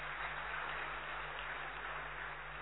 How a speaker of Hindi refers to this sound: Sir के लिए जोरदार ताली बजाई।